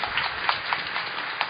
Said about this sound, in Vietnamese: Lần nữa chúng con xin chúc mừng một tràng vỗ tay nữa và cảm ơn Đức cha đã về với chúng con.